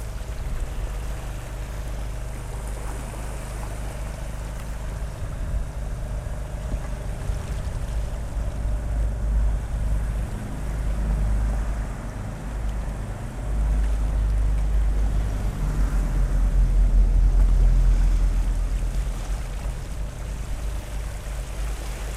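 A steady engine-like drone of a small generator runs throughout on a rowing boat with a spotlight aimed into the water, out octopus fishing at night in December off Siracusa, Italy, with a low rumble and gentle water sloshing on calm water as one person rows; no voices, fairly constant.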